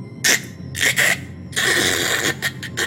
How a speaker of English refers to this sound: That was the dome cracking.